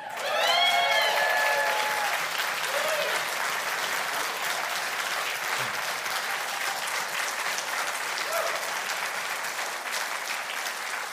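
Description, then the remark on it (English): A large audience applauds steadily for about eleven seconds, a dense wash of clapping with a brief whoop or whistle near the start, fading slightly toward the end. “Now, if you really want something to applaud about,”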